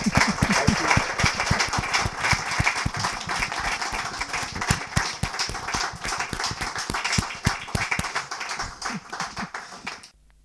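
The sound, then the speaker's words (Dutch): An audience applauds steadily for about ten seconds for speaker Jean-Paul van Bendegem, a dense wash of many hands clapping, with a few louder individual claps standing out before it stops abruptly. “Geef hem een geweldig applaus.”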